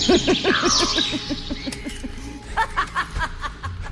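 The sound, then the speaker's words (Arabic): Crows caw in a quick, harsh run of rasping calls, followed by a few separate, spaced caws, loud throughout. “يو بيشربون فجأة ظهر عداله غربان وظهرت عدالهم عيوز.”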